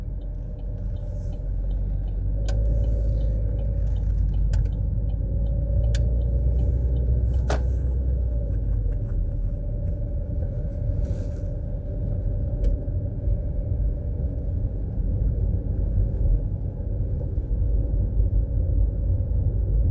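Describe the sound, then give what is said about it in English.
A transfer truck's heavy engine drones steadily from inside the cab, a deep continuous rumble with a few faint clicks and rattles scattered over it, and no one speaking. “On a transfer truck.”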